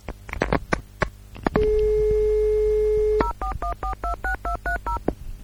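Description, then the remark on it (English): A steady telephone dial tone hums for about a second and a half, then a quick run of about ten touch-tone beeps punches out a number, preceded by some clicks and handling noises. “Oh, it's like it's back to the BBS days, isn't it? Of course, with my lease line, I just don't know what a dial tone is.”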